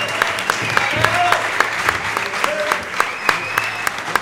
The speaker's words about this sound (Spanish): Pero bueno, esto es Tocineando y este es Leo y vamos a tener que... pedir que suba otra persona y así vamos a ir turnando, pero pido un aplauso para Leo Tocineando, por favor.